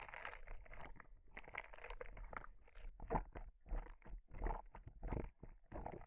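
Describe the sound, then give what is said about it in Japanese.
Soft, wet squelching from slime being worked in undulating, wave-like pulses, a steady run of moist gloopy bursts that swell and fade in a loose rhythm. “聞こえるか？世の手で波打つ音が。”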